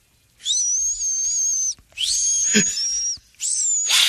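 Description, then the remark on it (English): A thin, high whistle from a person's nose while breathing sounds in three long breaths, each a steady piercing tone that wavers slightly, separated by brief pauses, with a faint rustle and no talking. “That's your nose.”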